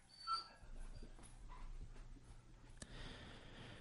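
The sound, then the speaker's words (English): Marty, a dog frightened by thunder, whimpers softly in the background, a few thin, high whines and yips rising over a low steady hum, with a brief sharp click near the end. “That's Marty, our dog, in the background.”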